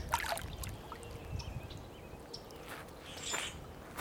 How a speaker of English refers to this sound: See if we can hear the water. It's one of my favorite sounds in the world, the sound of water. I feel like it calls to something in our veins.